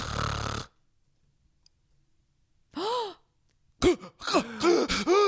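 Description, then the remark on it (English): A person imitates a man's loud, rasping snoring while he sleeps, followed by a pause of near silence as his breathing stops, then a sharp gasp for air and a run of strained, wheezy breaths and groans, without other talk. “So before he got tested for it, he would like, this is literally what it would sound like when he's sleeping. He would snore really bad.”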